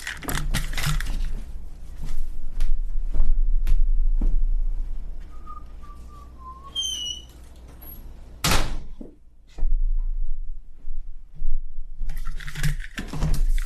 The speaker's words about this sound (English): Oh, I should probably shut my door. Hold on.